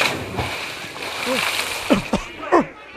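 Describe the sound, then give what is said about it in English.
Water is splashed onto a person who has fainted in a noisy, sloshing burst, fairly loud, while short voiced exclamations break through toward the end. “Here's some water. Take a drink. It's not for me. Put it on him!”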